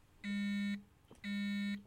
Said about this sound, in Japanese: 僕のスマホが震えた。見ると母からだった。